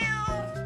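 A single cat's meow, clear, a short tonal cry with a slight downward bend, heard on its own with no talking.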